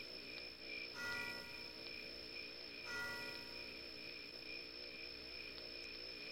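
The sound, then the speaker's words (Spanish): Church bells ring out in slow, spaced strikes a couple of seconds apart, their tones lingering over a steady background hum; no one speaks. “Vuelven a sonar las campanas.”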